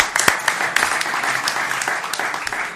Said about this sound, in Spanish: ¡Otro aplauso!